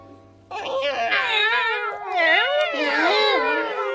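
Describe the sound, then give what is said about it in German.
Several cats meow at once in long, wavering, overlapping cries that start suddenly after a brief quiet moment and continue loudly until the end. “Ach, meine süßen kleinen Schnuckis. Du, Theseus, du bist mir der liebste Kater.”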